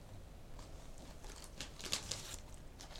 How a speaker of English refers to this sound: We're munching away here, aren't we? We won't do much recording when we're eating up cheese and onion crisps and square crisps and oops. For our snack.